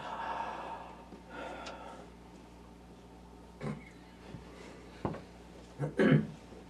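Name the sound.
yawning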